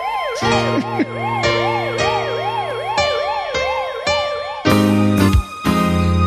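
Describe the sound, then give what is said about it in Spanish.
A loud emergency vehicle siren wails continuously, its pitch sweeping up and down in rapid repeating cycles over a rumbling vehicle engine, with no talking. “Ya se ha ido el de la sirena.”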